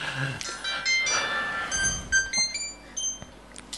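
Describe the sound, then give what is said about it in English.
A mobile phone's turn-off jingle as the phone is switched off before a recording: a short electronic melody of bright, bell-like tones stepping through several notes over a few seconds, fairly loud, with faint background noise. “It's like the loudest turn-off sound ever.”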